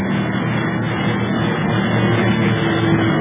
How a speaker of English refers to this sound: Look, that other plane's out of control. He's going into a nosedive.